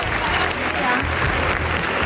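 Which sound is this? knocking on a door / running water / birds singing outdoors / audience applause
audience applause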